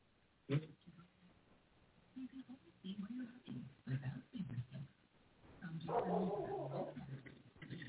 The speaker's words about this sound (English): Not sure if you can hear my dog, but she's barking. Neighbors are doing stuff, Mom. Uh-huh. Sorry if you hear that in the background.